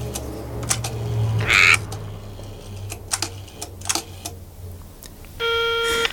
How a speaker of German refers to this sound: Nach langem Grübeln und Überlegen griff der erste Detektiv schließlich nach dem Telefonhörer und wählte die Nummer des Polizeireviers.